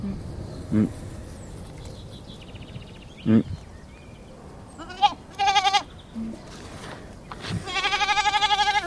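Several goats bleat in short, wavering calls, some loud and others softer, with a long quavering bleat near the end and faint background noise between calls.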